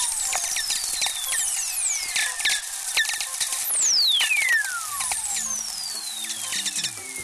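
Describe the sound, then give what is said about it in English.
Several lightning whistlers, eerie radio tones that glide steadily downward in pitch as each burst of lightning is peeled apart, higher frequencies arriving before lower ones, overlapping one another against a constant crackle of static clicks, with no voices present. “In other words, that instantaneous burst of lightning gets peeled apart. The higher audio frequencies arrive before the lower ones, so you get this downward falling tone.”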